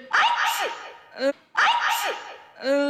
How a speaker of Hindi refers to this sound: अच्छा अच्छा रुको, ये लो मैंने दवाई सुंघा दी। ये क्या शेख चिल्ली, ये तो छींक रही है।